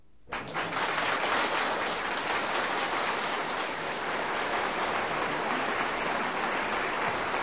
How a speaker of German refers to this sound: Der tosende Beifall war noch nicht zu Ende, da stand das Gerichtswesen Pack schon unter der Sensordusche.